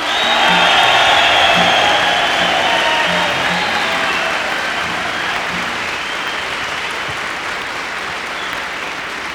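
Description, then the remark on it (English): A large crowd bursts into loud, sustained applause with cheering and whoops for the late guitarist, gradually easing slightly over about nine seconds without any talking. “How about one big cheer for …?”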